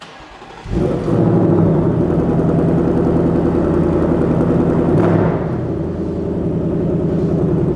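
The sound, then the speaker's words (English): A car engine cranks and catches with a loud burst, then settles into a deep, steady rumble with a brief throttle blip partway through, with no talking. “he's going to fire it up”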